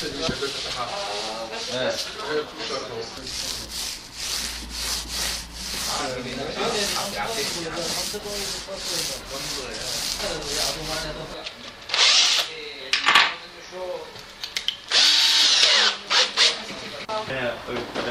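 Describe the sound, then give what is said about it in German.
Renovation noise in a former restaurant in Berlin, where Berliners and refugees work together: steady rubbing and sanding with bursts of a power drill whining loudly near the end, while people talk underneath. “Noch herrscht hier Chaos. Auf dem Boden Glaswolle, Farbeimer, Werkzeuge.”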